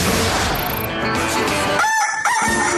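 A rooster crows loudly and close up, a strained, raspy cock-a-doodle-doo that trails off in ringing tonal notes near the end. No one speaks.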